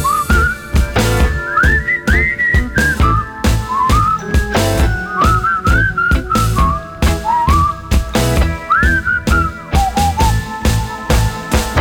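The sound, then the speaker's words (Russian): A person whistles a lively, bouncing melody with rising and falling phrases, loud, over a steady rhythmic musical backing with drums and bass. “Свисти!”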